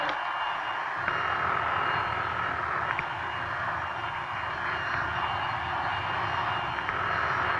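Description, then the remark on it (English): A vacuum cleaner runs steadily in a house throughout, a continuous loud motor roar with a high whining tone on top and no break or change in level. “Hey, Ma, would you hold that vacuum for a minute, please? I can't hear.”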